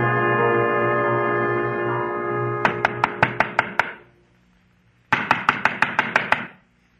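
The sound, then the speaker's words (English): Two bursts of rapid knocking on the door of Pilar the peddler's junk shop, each about seven quick, sharp raps, separated by a brief pause. A steady droning tone plays beforehand and cuts off as the knocking begins. “To knock on a door.”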